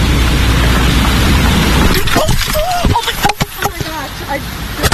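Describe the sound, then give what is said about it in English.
A car roars up with a heavy wet rush, then a sudden cluster of knocks and clattering thuds as it strikes a TV reporter during a live shot, followed by a startled voice calling out. “I just got hit by a car, but I'm okay”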